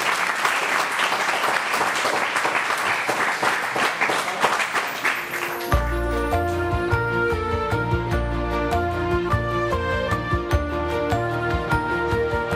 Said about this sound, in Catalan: Si us sembla, fem un aplaudiment per l'Institut Josep Capiró de Reus, també.